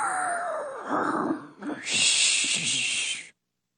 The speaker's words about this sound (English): This time, the snore belongs to my mom.